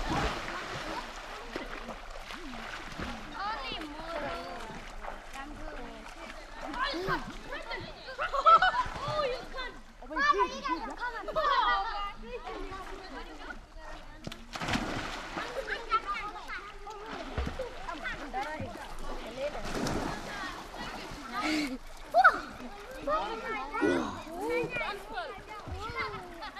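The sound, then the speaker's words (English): People splashing and swimming in a spring waterhole of permanent water in a mountain gorge at Winnipeg Springs, with irregular bursts of water breaking through a steady mix of voices calling and chattering throughout. “To be here, and to swim in the water, I have to be welcomed by an elder.”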